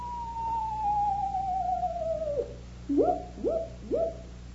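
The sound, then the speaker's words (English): Owl hooting in a canyon: one long, drawn-out call gliding downward, then three short, evenly spaced hoots, clear over a low steady hum. “There's two owls.”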